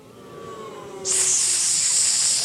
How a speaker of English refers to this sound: Now, Rebecca had a brother whose name was, you guys need to boo and hiss when we say his name, okay? Now, Rebecca had a brother whose name was Laban.